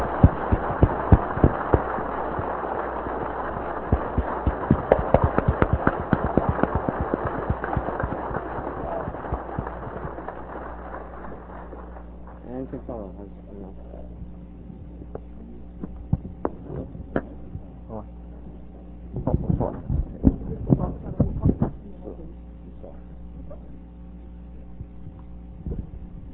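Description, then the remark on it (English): An audience applauds the organizers of an evening event, clapping in a dense, steady burst that gradually thins out into scattered individual claps, with a short renewed flurry of clapping toward the end before it dies away. “And I think you'll all join me in giving them a well-deserved round of applause for this wonderful night.”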